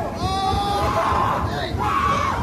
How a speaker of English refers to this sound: I love the reaction. Who the fuck is screaming like they really give that much of a shit about a pigeon?